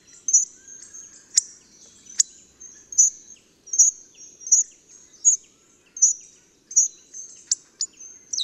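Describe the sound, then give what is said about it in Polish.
Hawfinch song: a loose series of short, high, thin chirps and squeaky notes repeated at a slow, uneven pace, with a couple of sharp clicks, clear in quiet surroundings. “Nadaje to piosence grubodzioba dość luźny, niezdecydowany i raczej niemrawy charakter, przywodzący na myśl piosenkę Gila.”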